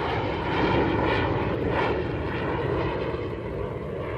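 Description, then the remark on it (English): A de Havilland Comet jet airliner roars steadily overhead, a broad, continuous engine rumble with a hissing whine on top, holding fairly constant loudness throughout with no voices. “But already there was a new shape and a new sound in the skies, which had far more commercial promise, the immensely beautiful form of the de Havilland Comet.”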